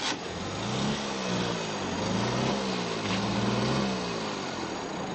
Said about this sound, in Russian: Сидеть-то сижу. Да разве не видите, мотор заглох. Сильнее газоните вначале. Не бойтесь поддать газу и помаленьку выжимайте рычаг сцепления.